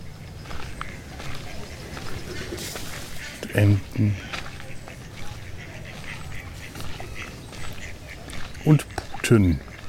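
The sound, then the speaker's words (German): Turkeys call in a poultry enclosure, with two clusters of loud, warbling gobbles, one midway and another near the end, rising over a steady, rustling outdoor background. “Das sind Truthühner.”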